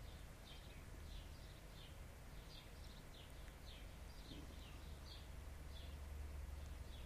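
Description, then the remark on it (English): A bird repeats short, high chirps at a steady pace, faint, over a constant low rumble of outdoor background noise. No one speaks. “There's the sound of a bird.”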